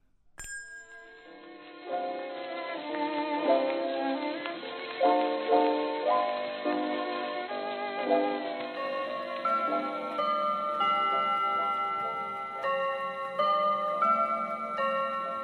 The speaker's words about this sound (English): Oh, yes, that's the clock in the back of my shop striking 8 p.m.